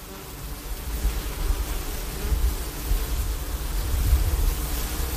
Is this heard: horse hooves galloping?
no